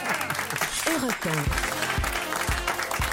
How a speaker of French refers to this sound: On applaudit quand même